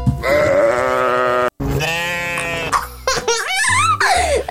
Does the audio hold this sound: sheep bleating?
yes